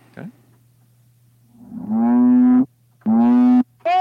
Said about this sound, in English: Whoa, what happens if you reverse the honk? The question is being posed.